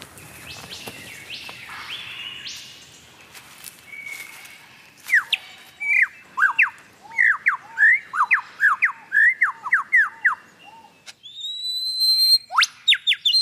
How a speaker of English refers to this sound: What bird has the most elaborate, the most complex, the most beautiful song in the world? Well, I guess there are lots of contenders, but this bird must be one of them. The superb lyrebird of Southern Australia.